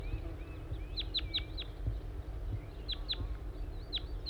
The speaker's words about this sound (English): I think I hear a wild bird again. Stop. Yes, I see a wild crossbill. It appears to be a small race male.